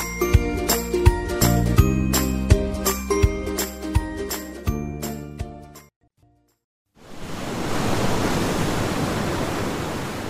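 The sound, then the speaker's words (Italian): A bright tinkling musical jingle plays, stops, and after a brief silence a steady, loud rush of sea waves fills the rest, a continuous wash of surf around a ship at sea. “Su una nave, in mare, da qualche parte.”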